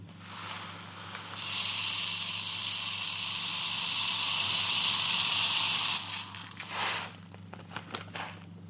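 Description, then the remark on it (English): Tiny glass beads, 2 millimeters in diameter, pour steadily into the brain case of a skull to fill it and measure its volume, making a bright, continuous rattling hiss for about four seconds. A few scattered clicks and taps follow as the pour ends, over a low steady hum. “They're 2 millimeters in diameter, and I'm going to pour them into the brain case until the inside of the skull is full, and then pour the beads out, and I'll measure the volume from the graduated cylinder.”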